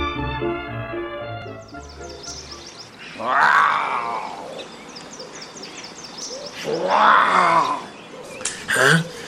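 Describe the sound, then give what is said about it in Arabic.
A leopard, coming from afar on its way home and carrying a large prey, growls twice, two loud, rasping roars a few seconds apart over a busy background, after a brief steady tonal hum at the start. “إنه الفهد، أجل، إنه الفهد قادم من بعيد.”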